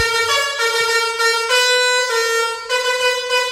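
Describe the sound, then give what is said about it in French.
A loud, brassy truck air horn plays a cover of a song's tune, holding a series of sustained notes that step between pitches with brief breaks, unaccompanied by any voices. “Blind Test, klaxon de camion, des reprises de chansons, mais avec les génial.”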